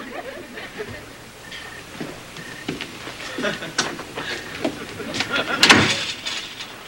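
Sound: door opening and closing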